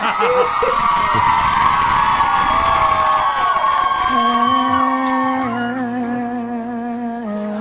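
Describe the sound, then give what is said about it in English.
A loud crowd cheers and whoops enthusiastically, with high-pitched shouts and sustained hollering that continues throughout, some voices holding long tones toward the end. “All right, enough exuberance, crowd.”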